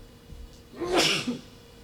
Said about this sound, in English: That has not been a feature of my life this week, so I'm sorry about that. Didn't expect to have to sneeze in front of you.